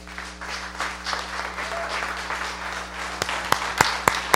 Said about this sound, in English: Can we give the Lord a clap up?